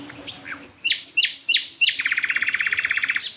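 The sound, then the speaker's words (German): Four nightingales singing at the same time: a few rising whistled notes, then a loud, rapid, rhythmic trill of bright, high chirps, with fainter song underneath and no talking. “Also wir hören jetzt gerade, ich höre jetzt gerade vier Nachtigallen gleichzeitig.”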